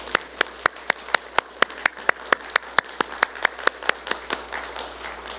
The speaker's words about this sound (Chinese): 我们在还没开始之前，我们先给他们一个热烈的掌声来欢迎他们一下好吗？